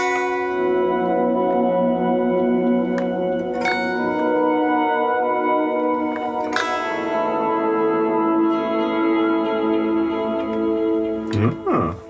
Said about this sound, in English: There's an echo. Okay. But if you do volume swells, you can get really cool modulated pad tossings.